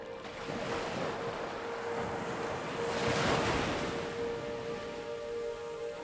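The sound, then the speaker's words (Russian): Ocean surf washes in steadily, a broad hiss of water swelling slightly around the middle before easing back, with a soft wind rush underneath and no voices. “Теплая мягкая вода накрывает вас с головой, омывает все тело, приподнимая слегка, опускает на место, уходя с тихим шепотом.”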